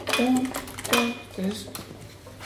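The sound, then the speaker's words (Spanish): Keys jangling in three quick shakes, each a bright burst of metallic clinks with ringing tones, followed by a quieter, fading rattle. “Puede ser con las llaves, sí.”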